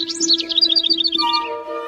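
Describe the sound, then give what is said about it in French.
A rapid flurry of high, twittering chirps from small birds, busy, tapering off near the end over a steady low sustained tone. “Les oiseaux en bas se sont lamentés, parce que c'est vrai, si c'est l'aigle le roi, c'est fini de rigoler.”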